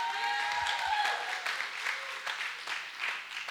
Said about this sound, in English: Can I get amen? Y'all need to be clapping better than that.